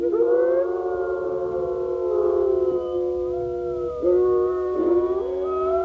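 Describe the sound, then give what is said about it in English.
A pack of wolves howls together in a sustained chorus, their long gliding voices overlapping at different pitches, some rising and falling while others hold steady, loud with no talking. “you can hear the wolves at different pitches when they're howling.”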